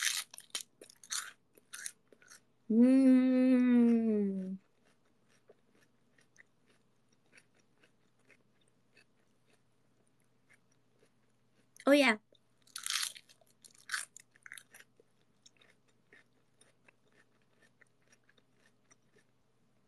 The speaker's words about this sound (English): Ooh. I love these big pieces of crunchy lettuce.